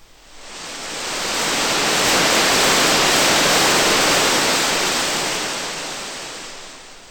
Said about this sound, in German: Das statistische Rauschen des Rauschgenerators füllt das gesamte Hörbereich von der tiefsten bis zur höchsten Frequenz und wird, analog zum weißen Licht der Sonne, weißes Rauschen genannt.